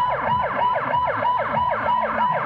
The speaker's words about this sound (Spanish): Con estas sirenas de ambulancia, los médicos yemeníes protestan frente a la sede de la ONU en Sanaa. Alertan sobre la escasez del combustible en el país debido al bloqueo saudí, lo que podría agravar aún más la crisis humanitaria.